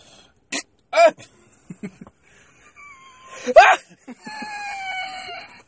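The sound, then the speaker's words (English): A phone ringtone goes off, loud, harmonic and crowing-like: a few sharp squawking bursts, then a long, wavering, sustained tone that slides slightly downward, with no talking over it. “Oh, who's that phone?”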